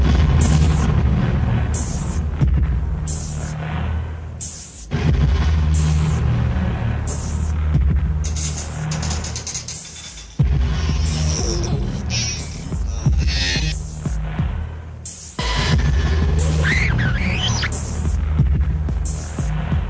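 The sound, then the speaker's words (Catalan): Dark electronic film-score music made with electronic instruments in a tone close to chill-out, with a deep, throbbing bass pulse and layered synth textures, playing steadily and fairly loud with a repeating rhythmic pattern and no voices. “La seva música està plegada d'instruments electrònics en un to molt proper al chill out, en ocasions”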